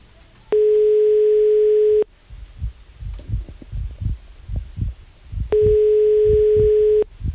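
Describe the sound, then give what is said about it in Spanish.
A telephone ringback tone sounds twice as a call goes unanswered, each a steady buzzing beep of about a second and a half separated by a long pause, while soft, low, heartbeat-like thumps pulse in the gap. “por Dios, cógenos el teléfono, venga.”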